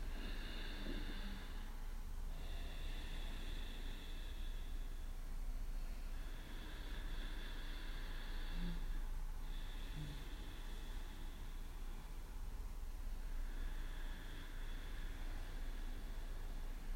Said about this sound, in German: Und wenn ihr den Hals so ein bisschen aufmacht, für die, die das noch nicht so oft gemacht haben, nur durch die Nase atmen, der Mund ist zu. Und nochmal.